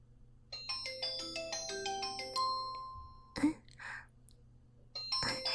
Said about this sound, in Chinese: 你先接电话吧。